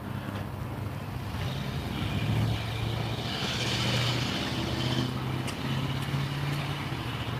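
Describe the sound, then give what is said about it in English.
A pickup truck zips past at the end of an intersection, its low engine rumble swelling and fading over a steady wash of wind and outdoor background noise. “Pickup truck went zipping by the end of the intersection, stopped on the other side, backed up, and then went back through the intersection again.”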